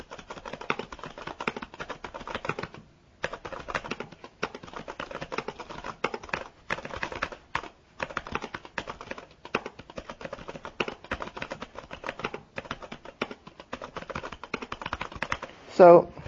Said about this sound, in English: Now, it may seem a little more ching, ching, ching. I don't know how to explain that. The keys are made of a plastic... they're lighter keys, but they are definitely more responsive. The Empower keyboard has its own sound.